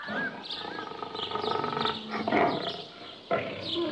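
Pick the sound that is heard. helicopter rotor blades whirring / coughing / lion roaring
lion roaring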